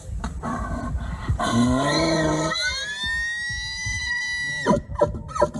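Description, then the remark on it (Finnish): A moose mating call: a loud, drawn-out moaning wail, rich and harmonic, that bends upward in pitch and holds for several seconds before breaking off into a few short grunting sounds. “niin mulla olisi tässä nytten meille kaikille toi hirvieläimen sellainen, kun tiedätkö, näillä eläimillähän on niitä semmoisia paritteluhuutoja.”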